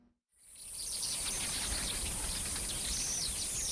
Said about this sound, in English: On Margaret Roberts' farm, ears are filled by singing birds and buzzing cicadas